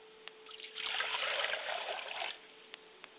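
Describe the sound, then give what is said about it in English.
Water is poured onto the ground as a libation, a steady splashing trickle lasting about a second and a half, with a few faint ticks before and after. No one speaks. “And I always remember to pour water to the ground so that it will be fertile”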